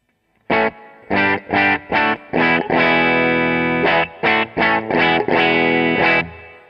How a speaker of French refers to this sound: Donc, on va aller rajouter un petit peu de reverb, histoire d'avoir un petit peu d'espace. Voilà, je choisis la reverb, j'appuie sur Enter. Et là, avec les petits curseurs, je m'ajoute un petit peu de reverb. Et ça nous dit ça.